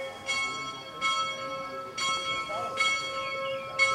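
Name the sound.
church bells ringing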